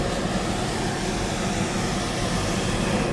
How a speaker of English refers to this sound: A hot air balloon is heated with propane, which means every so often, the pilot shoots a jet of fire into the balloon to keep it aloft. It makes conducting an interview challenging.